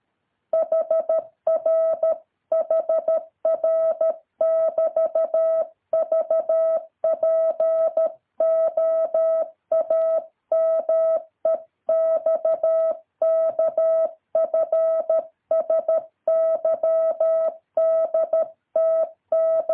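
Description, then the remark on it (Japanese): A steady single-pitched tone keys on and off in quick dots and dashes, Morse code letters sent one after another at a brisk, even pace with short gaps between characters, as a Morse receiving practice drill with the speed knob being turned up, no voices. “と言いながら、容赦なくつまみを上げていきます。”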